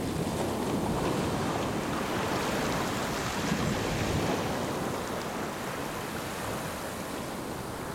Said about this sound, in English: Walk over the edge now. Wade through waves and let your body listen.